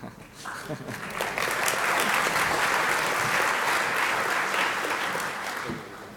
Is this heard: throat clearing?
no